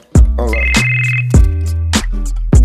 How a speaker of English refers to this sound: You hear my cell phone ringing. Hold up, I gotta handle some business.